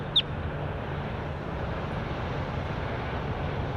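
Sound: bird call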